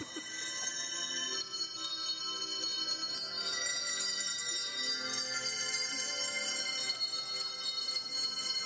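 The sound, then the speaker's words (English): Many small hand bells, shaken by children following color cards at a church Christmas program, jingle and ring continuously for several seconds, a bright, high, shimmering clatter of overlapping tones with steady loudness and no voices. “they had those really annoying bells that they ring, like the color cards, and when it was his color, they would shake the bells”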